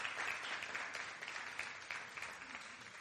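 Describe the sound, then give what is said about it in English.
An audience claps steadily in a dense, continuous burst of applause that stays fairly even throughout, many hands together with no voices standing out. “Give a big hand clap also.”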